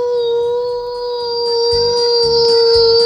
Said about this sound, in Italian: Senti qua. È l'energia dei nostri cucciolotti. È l'energia.